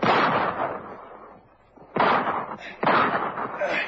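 pistol gunshot

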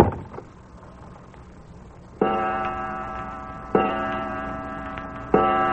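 clock ticking

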